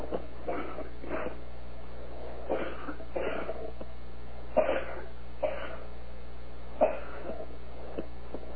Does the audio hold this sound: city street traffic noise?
no